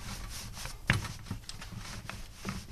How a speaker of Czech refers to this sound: Když už je ukrytý, není vidět ten tukový čtverec, je přikrytý tou vrstvou toho kynutého těsta i z vrchu, vezmeme znovu váleček a rozválíme do placky? Teď vezmu váleček a postupně se budu snažit, aby ten tuk se dostal do toho, v tom těstě všude.